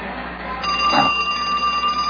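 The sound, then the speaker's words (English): A payphone in a phone booth rings with a steady, shrill electronic bell tone lasting about two seconds, clear, with no voices over it. “The phone booth again. Hello?”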